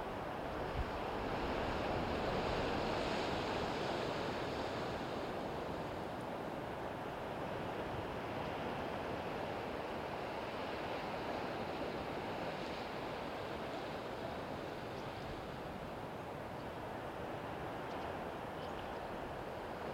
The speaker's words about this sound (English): Being washed and cleansed by the waves. Being cleared by the winds.